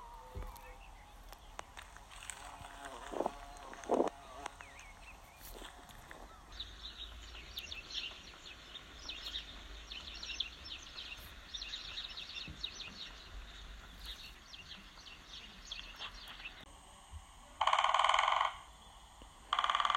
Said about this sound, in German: wollen wir euch jetzt die schönsten Frühlingsgeräusche von Wald, Wiesen und Natur zeigen. Typisch für den Frühling sind ja die Vogelgeräusche und die hört ihr jetzt.